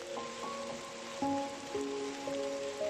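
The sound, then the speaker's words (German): Steady rain pattering on a surface makes a continuous soft hiss throughout, while gentle melodic tones play over it. No one speaks. “Dann rennst du zusammen mit Sunny durch den Regen.”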